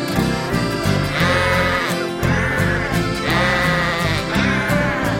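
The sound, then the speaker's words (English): Voices imitate sheep bleating, drawn-out wavering baas sung over a steady, full musical backing that stays loud throughout, with several bleat-like phrases repeating in a rhythmic pattern. “When sheep get up in the morning, they always say good day.”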